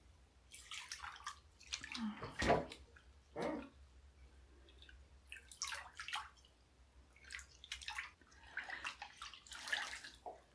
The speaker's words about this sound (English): Just dripping water. Scooping some up and dripping it down my chest. Watching the drops fall.